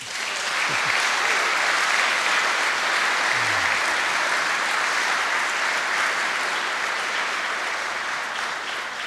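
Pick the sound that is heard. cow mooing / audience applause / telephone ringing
audience applause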